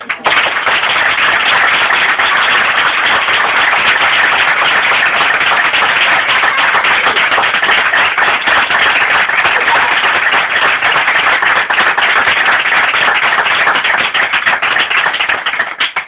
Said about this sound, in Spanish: Este aplauso es para ti, porque el libro lo he dedicado a ti y por eso es que te quiero mucho.